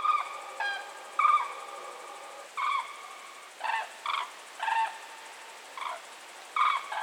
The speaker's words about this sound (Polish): Natomiast żurawie oczywiście też muszą odpoczywać i wtedy ten klangor, jak nazywany jest głos żurawi, jest spokojniejszy, taki łagodniejszy, no bo żurawie wylądowały na jakiejś polanie podmokłej, czują się bezpiecznie, mogą odpocząć, posilić się,